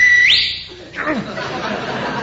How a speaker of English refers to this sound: And don't whistle. Do you want to scare the life out of people?